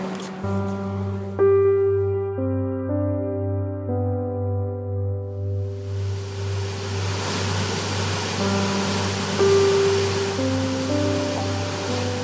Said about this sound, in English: Nugget Falls is a beautiful waterfall that empties into Mendenhall Lake.